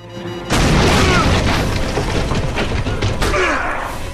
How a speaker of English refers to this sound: Markov laughs as Jack heads for the door, which suddenly blows inwards.